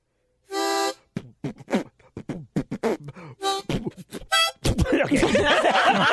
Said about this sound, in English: He's right. That actually didn't sound bad. Thank you. He's had a harmonica in his mouth for 5 seconds. Right. He's writing songs already.